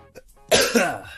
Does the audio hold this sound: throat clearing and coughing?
yes